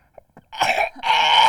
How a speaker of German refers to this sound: Nochmal husten.